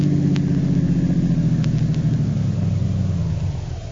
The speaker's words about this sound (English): Turn into the work yard and park in our garage. And next to the truck there.